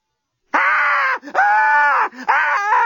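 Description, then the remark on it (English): A woman screams in terror, three long, loud, wavering shrieks with brief breaks between them, piercing, with no other voices. “Screamed Lucy.”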